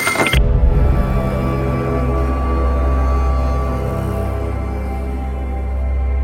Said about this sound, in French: Il monte dans sa voiture et fonce en direction de la dune de Porsgen.